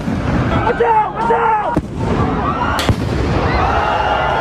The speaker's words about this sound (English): Fireworks also flew.